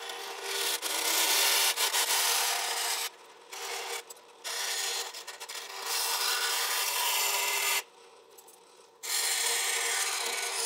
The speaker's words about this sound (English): Next, I'll cut them out on the bandsaw.